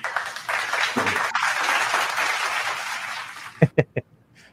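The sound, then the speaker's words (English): A crowd-applause audio sound effect: a burst of dense crackling clapping from many hands, steady for a few seconds, then it cuts off and three sharp, separate claps ring out alone. “You get the audio clap for that.”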